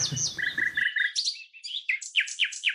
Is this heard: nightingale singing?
yes